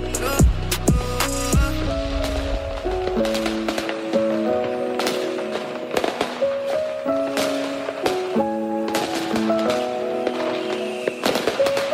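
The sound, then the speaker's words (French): Firecrackers or fireworks crackle and pop in irregular bursts throughout, sharp, layered over a steady melodic musical backing with no one speaking. “Et dans mon bloc, tu entendras des pétards ou des feux d'artifice.”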